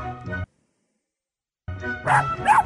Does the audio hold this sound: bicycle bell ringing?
no